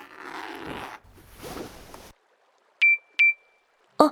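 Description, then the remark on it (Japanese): A mobile phone gives two short, clear notification beeps in quick succession as a message arrives, following a couple of seconds of rustling, zipper-like noise, and ending with a sharp click. No one speaks. “ちゃんと届いたみたいだな。”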